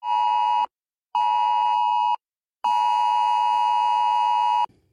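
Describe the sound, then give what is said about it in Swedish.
A loud, harsh emergency alert tone from a mobile phone blares in three long bursts separated by short pauses, steady and insistent, with no voices. It is Sweden's SE Alert crisis warning, used from 1 July to warn of direct danger and sent by rescue services to phones in a specific area. “Från och med 1 juli är det här ljudet från mobilen en direkt varning för fara.”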